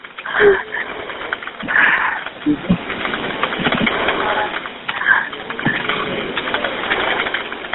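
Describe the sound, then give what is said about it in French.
A caller's best friend's whistle gives a couple of short, thin blasts, heard over a telephone call with a rough, muffled phone-line hiss, with faint rustling and bumps between them. “Ça, c'est son sifflet?”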